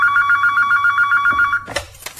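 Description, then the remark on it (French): A telephone rings loudly and steadily with a rapid warbling bell tone for about a second and a half before it cuts off abruptly, followed by a brief clatter as the receiver is picked up. “Mais un jour, son téléphone sonne.”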